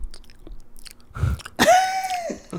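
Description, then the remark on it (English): A person imitates the dry, sticky lip smacking and mouth clicks that a man makes in his sleep from dry mouth: a few wet smacks followed by a drawn-out squeaky, nasal sound, fairly loud with no words spoken. “It, like, literally, like, summons me from my sleep because it's just, like, the weirdest noise.”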